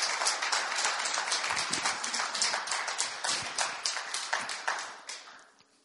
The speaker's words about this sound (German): Ich lade jetzt euch ein, einmal wieder am Lobpreis-Team einen Applaus geben für ihre Arbeit Woche für Woche für Woche. Merci euch vielmal. Wir wollen euch einen Applaus geben und sagen, schön sind ihr so treu.